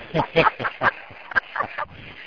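A rapid series of nasal, honking calls, about seven in quick succession, loud and close, like a goose honking with a slightly squawky, duck-like edge.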